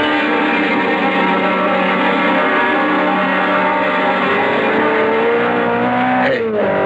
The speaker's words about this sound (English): That maniac driving at that speed. All units. A sports car looked like a Simonetti. I couldn't tell. Went by me too fast. Must be doing close to 90 or 100. Heading west on Trumbull.